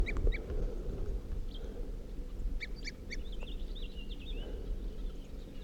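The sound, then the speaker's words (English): A crossbill calling from a ponderosa pine on top of a hill gives a series of short, bright tooping calls, repeated irregularly in small groups, moderately faint over a steady low rumble of background noise. “This tree I was looking at with a tooping crossbill.”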